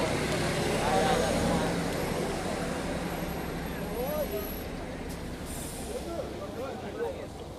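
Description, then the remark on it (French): Steady, loud rumble of buses and road traffic at a checkpoint by the wall, where Palestinians board waiting buses into Jerusalem; a dense wash of engine and street noise with people's voices talking underneath throughout. “Une fois de ce côté-ci du mur, les Palestiniens montent dans des bus qui les attendent pour les emmener à l'intérieur de Jérusalem.”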